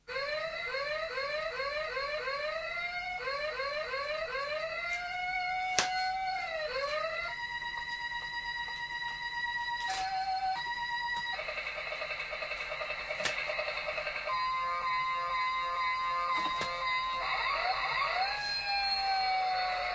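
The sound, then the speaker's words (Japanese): A fire truck siren sounds loudly throughout, starting with quick repeated rising yelps, then changing to sustained wailing tones and blaring horn-like notes. No one speaks. “これ見なかった 消防車。”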